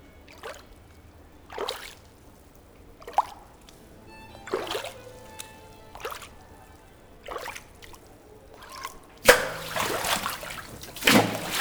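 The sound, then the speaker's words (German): Canal water in Venice laps and sloshes irregularly against a hard edge, a series of splashes and gurgles at uneven intervals as waves from many boats passing back and forth overlap, growing into heavier, choppier slapping toward the end. “Durch die vielen hin- und herfahrenden Boote werden die Wellen konfus. Sie überlagern sich und es entsteht ein großes Durcheinander im Wasser.”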